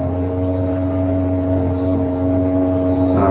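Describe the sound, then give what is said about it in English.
A boat's engine gives a steady, low rumble that drones without pause, with strong humming tones at the bottom and a thin mechanical whine layered above, holding at an even loudness throughout. “That's the boat. Yeah, that's not our stomachs hungering for lunch.”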